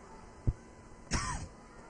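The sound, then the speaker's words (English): A soft low thump, then a harsh, breathy cough about half a second later, muffled as if right against a microphone. A baseball broadcaster coughs into the wrong, live mic. Faint background hiss and no talking. “Can't be coughing on the air.”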